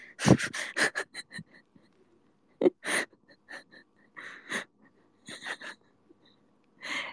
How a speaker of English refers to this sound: I don't like fireworks. Oh. What the fuck? What the fuck? There are fireworks, like, right outside my door.